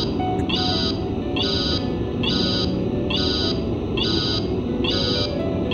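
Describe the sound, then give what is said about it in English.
A harsh electronic buzzer pulses on and off in a steady, repeating rhythm, about seven bursts, over a video game's continuous title theme music that stays loud throughout. “It's just with the... behind buzzer that's sort of distracting, to be honest, but it's all right.”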